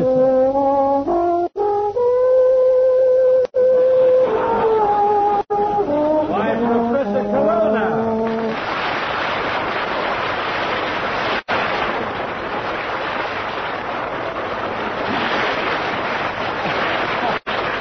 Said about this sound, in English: what's the idea of playing … theme song?